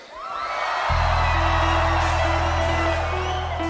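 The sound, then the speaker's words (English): A large concert audience of young people screams and whoops loudly at the singer's request, the roar swelling in after a brief moment and holding steady, with high-pitched shrieks rising above a sustained low rumble. “I want all the young people to scream at me.”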